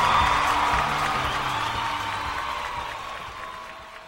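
A crowd cheers and applauds at the opening of the Green Divas Radio Show in a steady wash of noise, with scattered whoops rising over it, loud at first and slowly fading across about four seconds.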